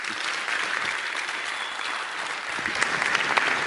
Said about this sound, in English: They're going to clap all the way till you're here